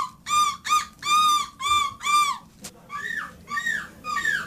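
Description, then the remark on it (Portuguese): Contestants, men and women, at the 5th European championship of people imitating seagulls imitate seagull calls: five loud, harsh squawks in quick succession, a sharp click, then several softer rising-and-falling cries, with no talking. “então submeter à vossa apreciação esta mescla de participantes no 5º campeonato europeu de pessoas que imitam gaivotas.”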